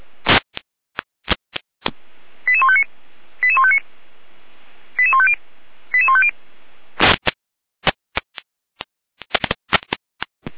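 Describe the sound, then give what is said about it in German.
Fire brigade radio alert tones: four short bursts of rapid, stepped electronic beeps, framed by sharp radio clicks and static crackles before and after, with no voices. “Na, das ist klar mit einer Alarmierung.”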